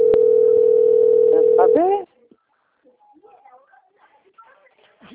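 A loud, steady telephone tone holds for about two seconds at a single pitch, then cuts off, leaving faint scattered chirps and light rustling.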